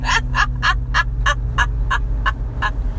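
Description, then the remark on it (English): A person snorts again and again in a quick, steady rhythm, about ten sharp nasal bursts in a few seconds, over a constant low hum with no talking, inside a car with the AC on. “You snorted a lot here.”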